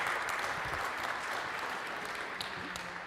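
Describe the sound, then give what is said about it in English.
An audience at a tech presentation claps after the announcement of a public preview of a sharing API, the applause a dense, even wash of many hands at moderate loudness for about three seconds, with no voices standing out. “You can go and find it, and somebody applauded.”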